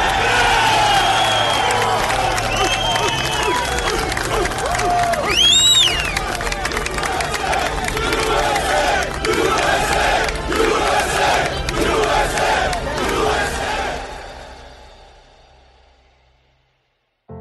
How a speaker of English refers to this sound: Those rescue workers erupted. It was a cry, a roar of a crowd who wanted justice to be done, who were searching with their bare hands for anybody who'd come out alive.